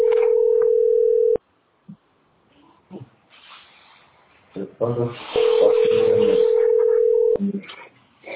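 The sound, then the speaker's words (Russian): Two long, loud, steady electronic phone beeps, one at the start and one later, as the phone number of a housing department is entered, with muffled voices and handling noise in between. “Это я номер телефона жилищного отдела записал.”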